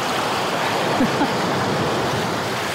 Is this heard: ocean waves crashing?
yes